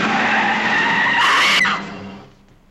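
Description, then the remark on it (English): A loud, sustained screech of truck tires skidding on pavement as a truck bears down on Edith crossing the street, a harsh high squeal that cuts off abruptly and fades into rumbling, with no voices. “A truck bears down on her.”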